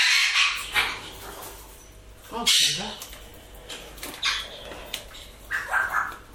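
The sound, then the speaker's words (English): Birds squawk in the background, a scattered series of harsh, brief calls at uneven intervals, fairly faint, with a slightly louder, more tonal cry partway through. “Well, I'm hearing a terrible echo on my headphones with the... Well, the microphones with the birds going...”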